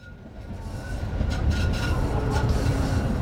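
A train rumbles past close by, its low roar swelling after the first second and holding steady, with a thin, high tone running faintly above the noise. No one speaks.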